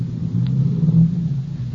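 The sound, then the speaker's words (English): A car engine being started rumbles in a deep, steady idle that swells slightly as if revving gently, heard alone with no voices for just under two seconds. “You start the car.”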